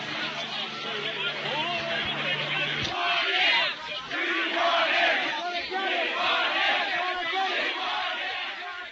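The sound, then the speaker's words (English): A large, agitated crowd of protesters clashing with troops and military police shouts and yells continuously, some members shouting "Sieg Heil", voices overlapping into a loud, rough roar that rises and falls for the whole stretch, with a low steady hum early on. “Members of the crowd shouting Sieg Heil.”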